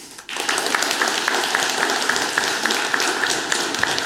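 An audience at a talk bursts into steady applause for a speaker being introduced, after a brief quiet moment, many hands clapping in a dense, even patter that holds at a fairly loud level throughout, with no talking.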